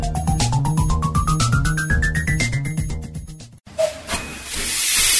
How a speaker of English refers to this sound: Enjoy a narrow gauge steam ride. No need to book, just turn up and take the next train. Bring a picnic and watch the steam locomotives go by.